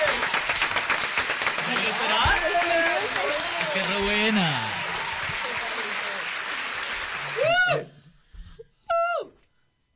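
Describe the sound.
At an awards ceremony, a large audience claps loudly and steadily for several seconds after the best international film award is announced, with voices calling out over the applause, before it stops abruptly and a couple of short spoken exclamations follow in near-quiet.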